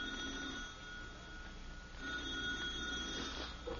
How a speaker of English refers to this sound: What? What's the matter? The telephone's ringing.